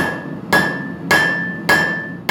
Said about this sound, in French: J'espère que tous ces sons d'enclume ne vous ont pas rendu totalement marteau.